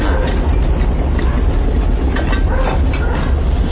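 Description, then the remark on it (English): A subway train rumbles loudly and steadily throughout, a dense low roar with faint rattling and clacking on top, unbroken, with no voices. “Subway.”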